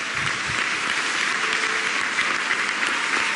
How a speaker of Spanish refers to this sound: De modo que como profesional yo te aplaudo